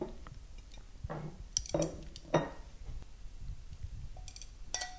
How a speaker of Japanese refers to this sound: さあ、これをお皿に盛り付けますね。